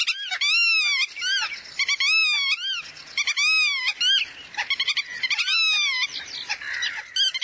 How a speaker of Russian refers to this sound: большой веретенник, такой голос, как плач.